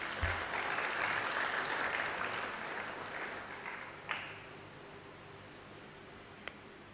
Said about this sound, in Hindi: जिन्होंने ऐसा महसूस किया है वो जरा हाथ तो उठाएं, हाथ तो उठाएं, वाह, और अपने लिए ताली बजाएं।